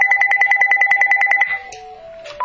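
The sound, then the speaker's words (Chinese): A telephone rings for an incoming call placed from a landline: a loud, rapid electronic warbling trill for about a second and a half, followed by a few shifting electronic tones. No one speaks. “哎，牧师，对不起，我们呢这个 Skype 今天晚上不太好，现在我用 Landline 打电话给你，那么弟兄姐妹他们就不在当中啊”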